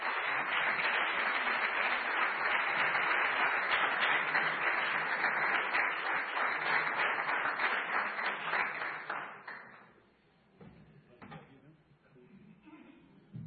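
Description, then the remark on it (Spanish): Sustained applause from a large crowd at an evening event for the historian of Granada, loud and dense for about nine seconds before tapering off into scattered claps and murmuring voices. “porque si hay alguien al que haya que darle un fuerte aplauso esta noche,”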